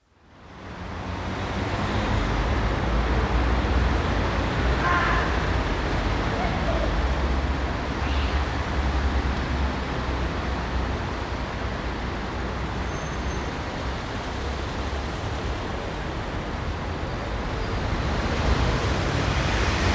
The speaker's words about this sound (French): Sous l'autopont, un effet de voûte réverbère les sons du rez-de-chaussée et les amplifie. Mais on n'entend plus le trafic du dessus.